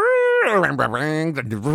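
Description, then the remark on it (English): A person vocally imitates boat sounds: a steady, low humming tone, then a louder, wavering, warbling voice that rises and dips in pitch for about a second and a half. “Those are boat sounds.”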